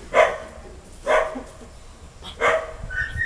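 A dog barks three times, each a short sharp woof spaced about a second apart, at moderate volume over a faint background hiss with no one talking.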